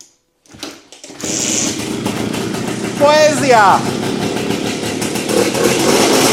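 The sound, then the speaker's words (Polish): A motorcycle nicknamed "Niunia" cranks and catches around one second, then settles into a steady rumbling idle with a quick, light blip of the throttle. A man briefly exclaims over the running engine. “Jeszcze odpalimy na odchodne, tak na sekundę. Chodź tu, Niunia, lekko gazikiem.”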